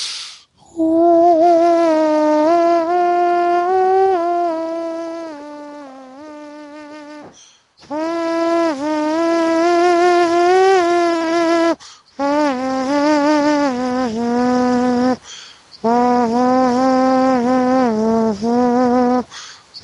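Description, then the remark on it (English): A voice does toning to set the energies before a channeling, sustaining long, buzzy, overtone-rich tones in four extended phrases, each broken by a short breath, the pitch wavering and sliding up and down. Loud and steady, with no words. “And as always, of course, allow your breathing to deepen while I do the toning that sets the energies and allows this to take place.”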